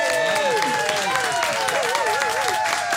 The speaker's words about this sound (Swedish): Ja! Firar 20 år som tekniker på Rix FM. En liten applåd för det.